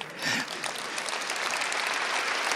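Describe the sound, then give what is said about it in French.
An audience claps steadily, a dense wash of many hands patting at an even, moderate loudness that holds for the whole stretch without pause or voices. “Merci, merci surtout si vous accompagnez l'applaudissement avec votre prière.”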